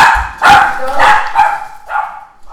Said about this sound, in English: I'm just going to let this dog out. Hang on a second. Go on.